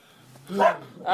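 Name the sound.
dog barking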